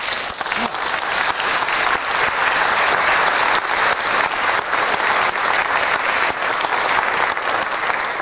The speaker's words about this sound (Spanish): Por eso, al ver jóvenes que están tomando seriamente la consagración, queremos dar gracias a Dios. Y darles un aplauso, ¿no?